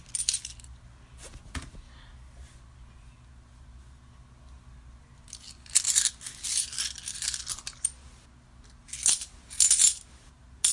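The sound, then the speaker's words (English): Metallic coins clink and jingle in bursts, dropped and shuffled, with bright rattling clusters separated by brief quiet stretches over a low background hum. “Play with your coins.”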